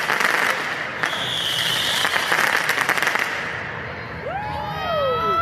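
Commercial-grade fireworks shot by protesters at the Justice Center at night go off in a rapid, crackling barrage of sharp bangs, followed by several high whistling rockets sliding downward in pitch, all over a steady roar of a large outdoor crowd.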